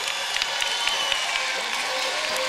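A crowd cheers and applauds as a player comes out onto the floor, a steady, dense wash of noise, scattered claps crackling through for the whole stretch without any let-up or clear voices.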